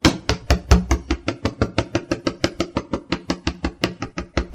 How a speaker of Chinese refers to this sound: 你怎么把砧板也剁烂了？你是在给木瓜去皮吗？